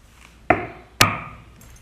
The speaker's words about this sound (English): Okay, the studio is 211 Lee Street, apartment 4. Just knock on the door.